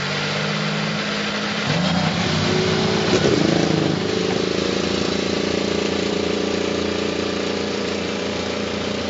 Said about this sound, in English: It is time to go trackside for the command. To give today's race command, please welcome one of college football's foremost and popular commentators, Paul Feinbaum. Gentlemen, start your engines!